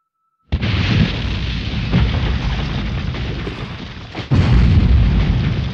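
A loud First World War artillery shell explosion bursts in over the trenches, followed by a sustained, rumbling roar of dirt raining down. A second heavy blast hits near the end. Powerful, with no voices.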